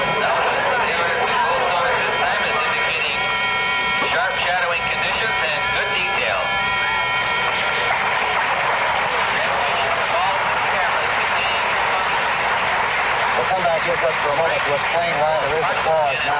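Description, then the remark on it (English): A constant radio hum from the Ranger 8 lunar spacecraft, in its final minute before impacting the moon's Sea of Tranquility after a 248,000-mile journey, drones on loud and unbroken, a dense buzzing tone with faint warbling textures, holding steady from start to finish. “When that constant hum dies out, you will know that Ranger has actually impacted on the moon.”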